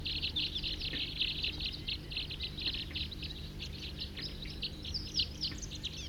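A big flock of about 40 wild birds calls loudly and continuously in a dense, overlapping chorus of high, bright chirps and tweets over a low, steady rumble, with no voices.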